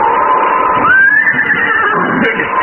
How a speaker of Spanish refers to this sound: De pronto, los relinchos rompieron el silencio de la noche. Las bestias estaban nerviosas y anunciaban algo.